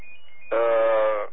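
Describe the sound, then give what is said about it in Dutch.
A telephone rings once with a single loud, steady electronic tone that lasts under a second, following a faint continuous hum. Nobody speaks. “Ja, de telefoon die gaat, man.”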